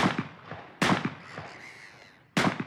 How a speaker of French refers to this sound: Kennedy et Joe tirent et tuent plusieurs oiseaux.